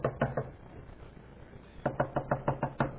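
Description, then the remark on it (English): Sharp knocks on a door, first a quick set of three, then a pause and a faster run of about seven raps, fairly loud with no voices. “And they go over there, and it's under the scarlet thread, and they come and they knock on the door.”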